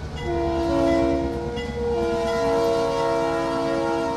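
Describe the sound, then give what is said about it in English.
An Iowa Northern freight locomotive's horn blares in a loud, sustained chord, briefly dipping before sounding again, over the heavy low rumble of rail cars being switched alongside a co-op's grain elevators in Forest City, Iowa, with no voices. “It's been 7 years since folks around Forest City, Iowa, have heard a train whistle in their town, but Iowa Northern locomotives are again switching rail cars alongside the co-op elevators towering grain silos.”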